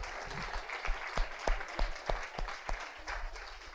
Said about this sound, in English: Thank you so much. Round of applause.